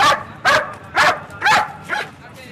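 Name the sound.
dog barking and whimpering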